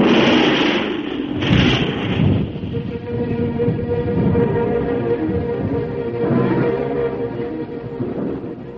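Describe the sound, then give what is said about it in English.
Loud, deep rolling thunder rumbles through a stormy soundscape, with heavy cracks in the first couple of seconds and another swell later, the low roar never quite dying away. “As the storm rose, the sky turned to a cloak of darkness. Thunder roared over the black plain, and long slivers of fire snapped against the wet earth.”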